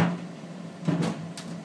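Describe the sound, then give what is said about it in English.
Running shoes, wet from the rain, tumbling in a clothes dryer to get dry: a steady low hum of the drum, broken by a few irregular, heavy thumps, roughly three knocks in under two seconds. “So I thought I'd let you hear a bit of an amusing, rumbling racket in the dryer.”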